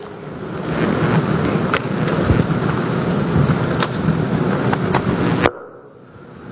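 Steady, dense rain hisses loudly with a low rumble of thunder beneath it and scattered sharp drips, then cuts off abruptly near the end, leaving a faint hush.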